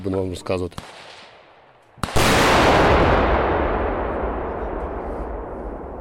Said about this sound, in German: Eine Panzerabwehrmine detoniert daraufhin und erschüttert das Gelände.